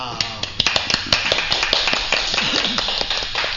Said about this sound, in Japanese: さあ、そしてですね、まあ、あの、ね、拍手もいただきましたけども